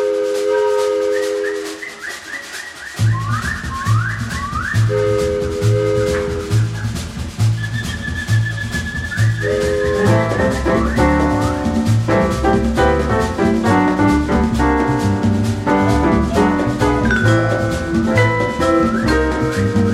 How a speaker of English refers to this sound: Got some birds in the background there. It is. This is a very classic exotica sound.